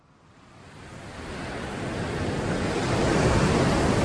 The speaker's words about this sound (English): Daytime, archival video shows churning ocean waves.